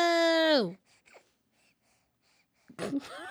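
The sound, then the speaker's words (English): A baby girl breathes into a microphone: a loud, high, held squeal that slides downward, a long quiet pause, then a cluster of breathy huffs and gasps. “Guys, she's just breathing in the mic.”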